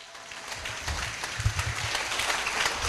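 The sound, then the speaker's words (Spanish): A crowd applauds steadily for about three seconds, a dense patter of many hands clapping that swells slightly midway and holds at a moderate level, with no voices over it. “¿Van a aplaudir las personas que están a favor de la guerra de Irak?”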